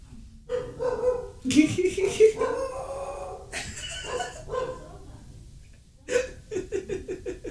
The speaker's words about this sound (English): One of my dogs just had a lot to say just now. Brief pupper intermission.